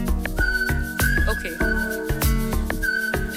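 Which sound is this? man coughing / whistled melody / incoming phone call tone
whistled melody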